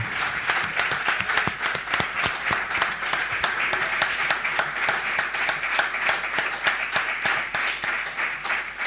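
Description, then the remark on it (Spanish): An audience applauds Xavi Seisó steadily for about nine seconds, a dense, even wash of many hands clapping at once with no voices rising above it. “L'últim torn de paraula és pel Xavi Seisó, al que també li hem de fer un gran aplaudiment, sisplau.”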